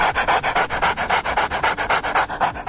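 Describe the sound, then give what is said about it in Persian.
A tickled ape laughs in rapid, breathy pants, a steady rhythm of about six raspy huffs per second, fairly loud, with no talking. “البته میمون ها چون دستگاه صوتیشون فرق میکنه، صدای خنده شون بیشتر شبیه نفس نفس دادن سگه یا کسی که حمله آسمی بهش دست داده.”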